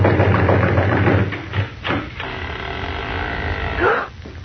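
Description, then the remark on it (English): A few heavy knocks bang on a house door with a loose latch at uneven intervals over a steady low hum, followed by a brief rising creak near the end as the door opens. “The latch was loose and the door opened when we banged on it.”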